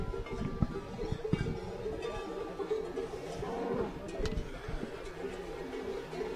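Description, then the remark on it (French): Large cowbells clank and ring irregularly as cows walk along the old stagecoach road on their way up to the summer pasture of the Liers valley, several bells overlapping with sharp strikes and lingering tones over a busy outdoor background. “Donc on peut entendre les grosses cloches des vaches qui s'en vont joyeusement vers l'estive de la vallée de Liers.”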